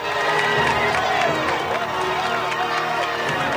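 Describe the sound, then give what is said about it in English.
A dense crowd of roadside onlookers in California roars and cheers outdoors as President Palmer steps out of a limousine, a continuous loud wash of many voices with scattered shouts and some clapping mixed in, sustained throughout without pause. “past News 22 vans and reporters eager for copy as a woman rushes to join the onlookers that throng by the roadside.”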